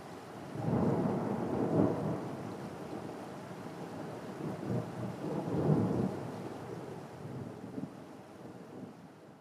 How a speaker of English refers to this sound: It's time for the three of you to head back home. The rain seems to be starting to slow down.